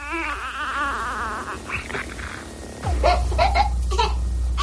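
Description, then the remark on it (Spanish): A newborn baby cries in wavering, high-pitched wails, then the sound breaks into short, choppy vocal bursts over a steady low background hum. “O este llanto de un recién nacido.”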